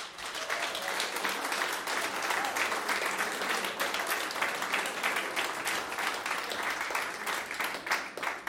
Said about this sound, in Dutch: ik nodig graag een andere muzikant uit op het podium. Hij komt helemaal van Parijs. Geef hem een hartelijk applaus.